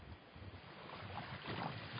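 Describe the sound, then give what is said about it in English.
A steady, continuous ocean ambience with a low rumbling wash and soft hiss, like surf or open water, holding at an even moderate level with no voices. “Now, just as a comment, I just received another email saying that the ocean stuff is distracting.”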